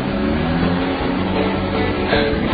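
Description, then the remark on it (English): A car engine rumbles steadily as the vehicle slowly backs out of a garage with an electric garage door, a low continuous drone with a slight rise near the end and no voices. “I hear the electric garage door open and the car backs out.”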